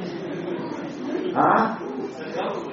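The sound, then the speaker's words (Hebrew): A person mimics a dove's cooing with soft, low voiced sounds, swelling into one louder hum near the middle before trailing off into quieter murmurs. “שמעת פעם יונה הומה? איך היא הומה נראית עשה?”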